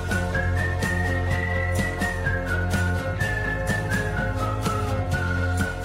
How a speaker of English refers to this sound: it was a real song by real musicians who know how to sing and know how to play, and the whistling was fun.